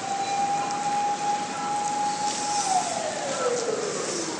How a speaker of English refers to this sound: Just missed a fire truck going down the road.